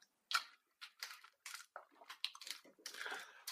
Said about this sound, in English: All right. A little sweeter, and the more I chew it, like the softer it gets. That happens with most food.